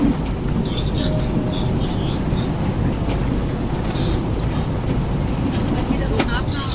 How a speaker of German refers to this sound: Das war jedoch kaum zu hören, aufgrund des Brummen des Kohlebaggers.